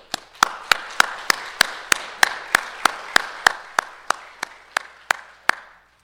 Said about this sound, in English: But I wanted to borrow her for just a moment because I think her life deserves a round of applause. Will you join me?